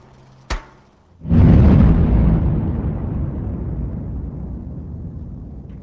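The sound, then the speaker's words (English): A sharp crack sounds, then after a short pause an explosive blast in a mine, set off with a detonator by the blast man after a final warning, erupts into a heavy, low roar that rumbles on and slowly fades over several seconds. “hands the detonator to the blast man, who shouts out the final warning.”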